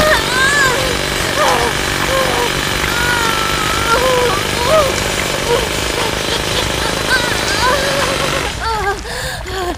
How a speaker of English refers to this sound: Why punch the safe? That is so cliché. I'll drill it with my boobs instead.